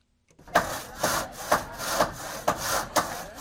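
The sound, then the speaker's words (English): A hand saw cuts through wood in steady back-and-forth strokes, about seven rasping pulls in quick even rhythm, fairly loud, with no voices, during rebuilding in Haiti a week after Hurricane Matthew. “The sound of hammers and saws in Haiti signals some progress a week after Hurricane Matthew struck the island, killing hundreds.”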